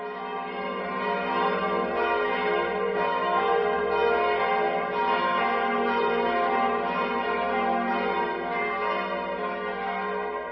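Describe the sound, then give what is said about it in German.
Several church bells, including three bronze bells cast in 1998 for the new church by the Karlsruher Glockengießerei and decorated by sculptor Bernd Stöcker, ring together in a continuous, overlapping peal for the morning ringing in Ziegelhausen, Heidelberg; rich metallic tones sustain steadily and fairly loud, with no voices present. “Drei Bronzeglocken wurden 1998 für die neue Kirche hergestellt, und zwar von der Karlsruher Glockengießerei.”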